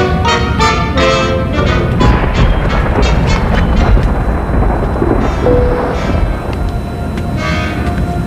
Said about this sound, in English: Storm.